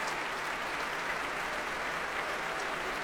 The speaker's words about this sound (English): The members of the São Paulo Symphony Orchestra applauding Nelson Freire as he returns to the front of the platform.